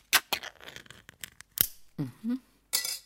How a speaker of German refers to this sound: Obacht, jetzt kommt der große Moment. Öffnen Sie den Verschluss an der Oberseite der Dose.